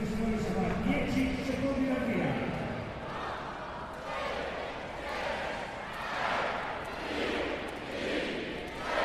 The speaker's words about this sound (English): There we are then, the 2016 Giro d'Italia is underway. That was the crowd cheering Fabio Sabatini, the first rider to tackle the opening stage time trial here in Apeldoorn.